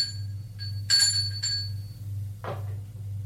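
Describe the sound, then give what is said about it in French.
A doorbell rings at the door of a fifth-floor apartment in several short, bright metallic bursts over a steady low hum, followed by a brief rustling thump, with no voices. “Sonne à la porte de son appartement.”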